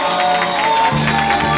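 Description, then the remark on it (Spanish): An audience applauds loudly and steadily throughout, a dense wash of clapping with some sustained musical tones running underneath. “Fuerte el aplauso.”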